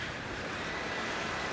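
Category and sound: vehicle, big truck passing by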